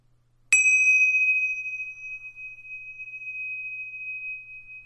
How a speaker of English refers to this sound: Now, as I did with the earlier visualization, I'm going to ring the bells again to signal the beginning and the end.